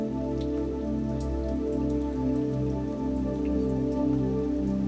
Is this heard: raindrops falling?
yes